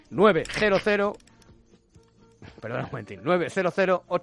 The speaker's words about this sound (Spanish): ¿Click? ¿Qué es? A ver, espera. Ah, que es como el ruido del ratón